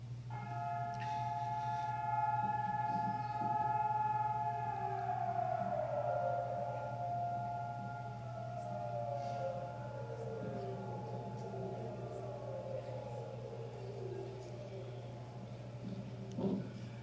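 A remembrance day siren, sounded while people stop and stand still for two minutes to pay respect to soldiers, holds a long, steady wail, then slowly slides down in pitch as it winds down, over a constant low background hum.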